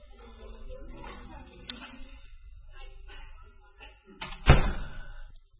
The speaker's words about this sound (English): I'm going to shut this door.